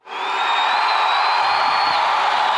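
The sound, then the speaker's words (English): A thunderous applause sound effect, played from a button, swells in quickly and holds loud and steady, a dense wash of clapping and crowd noise with shrill whistles cutting through on top. “I'm going to get my thunderous applause button ready.”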